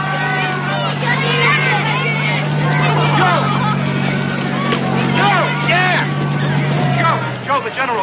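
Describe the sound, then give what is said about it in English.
A tank's heavy engine rumbles steadily as it rolls out of a town square, beneath a lively crowd of townspeople waving to the soldiers, many voices calling and chattering over the low, continuous drone. “leans back against the open hatch as the tank rolls out of the square.”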